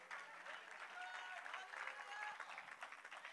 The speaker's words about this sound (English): Let's give God a hand of applause for that.